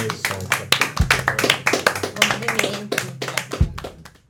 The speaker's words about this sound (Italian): Facciamo un applauso.